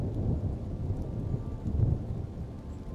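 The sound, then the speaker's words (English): Heavy rain, turned from snow, pours steadily in a dense, continuous wash against the window of a train descending a mountain through a forest, with a low rumbling undertone throughout and no voices. “By now, the snow has transformed into heavy rain.”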